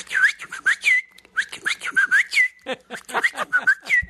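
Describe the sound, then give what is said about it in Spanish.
Someone whistles a short call imitating the whistle from a TV program, a series of quick rising and falling notes repeated in three breathy phrases, with no talking. “Traté de imitar el chiflido y ya.”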